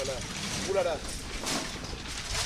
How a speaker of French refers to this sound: Le vent nous joue des tours là. Hein. Ouais. Voilà, c'était juste un petit coup de bourrasque. Un petit coup de bourrasque lozérienne.